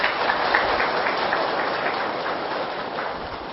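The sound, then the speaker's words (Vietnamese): An audience claps together in steady, dense applause as a pledge of commitment, answering a speaker's call for a round of applause. It holds an even, crackling roar throughout, with no voices or breaks standing out. “Nếu thấy rằng là việc giúp đỡ người khác để góp phần xây dựng cho xã hội này ngày càng được hạnh phúc đó, thì xin quý vị hãy dành một tràng vỗ tay để cam kết.”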